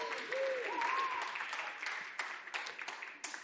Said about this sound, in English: Well, just give them a round of applause. Thank you. Well done.